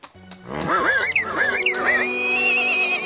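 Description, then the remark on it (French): Pegasus the horse, in the Hercules story, whinnies once in a stable, loud, its shrill call wavering up and down in a shaky trill before settling into a long, high held note. No voices are heard. “Elle libère le cheval qui l'emporte vers le port.”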